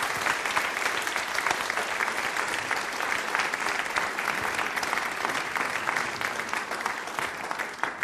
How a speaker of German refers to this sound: Erst einmal vielen Dank für diese kleine private Audienz, diese kleine Sprechstunde zwischendurch und ein herzliches Dankeschön, vielleicht nochmal einen kleinen Applaus, damit er nochmal Luft holen kann für den zweiten Teil.